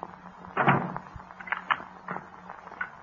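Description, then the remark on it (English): A door shuts with a muffled thump, followed by a few short, sharp clicks of a lock being turned, all fairly quiet with no one speaking. “Why'd you lock the door?”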